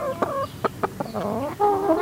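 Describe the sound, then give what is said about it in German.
Five chickens kept by a family in a city cluck in short, uneven bursts, with a few drawn-out, wavering calls mixed in. No one speaks over the birds. “Die Hühner gehören einfach zur Familie dazu.”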